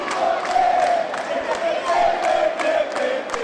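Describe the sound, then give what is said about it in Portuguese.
A large crowd of PT supporters shouts and cheers together in relief as a party vote result is announced, a sustained, loud roar of many voices, with scattered whoops and bursts rising above the steady din. “Quando o resultado foi anunciado, aí sim, a torcida ficou aliviada e soltou o grito.”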